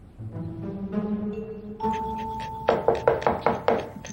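A ringing tone gives way to about six firm, evenly spaced knocks on a front door, fairly loud, over a low background hum.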